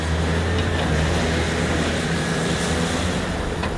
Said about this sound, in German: Von der einen Seite rollen die Wellen des Pazifiks unaufhörlich auf die Küste zu.